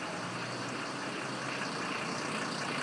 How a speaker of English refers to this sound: Yeah, mate, we've got an obstacle course today. Buses and vehicles everywhere. Monday evening, and I'm just arriving at Waterloo.